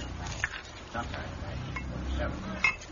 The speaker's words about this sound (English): Okay, Bud. Just pour me a scotch and tell me why I had to be dragged away from my chess game.